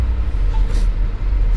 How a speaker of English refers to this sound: there's the bus Rob and Pamela were getting on right there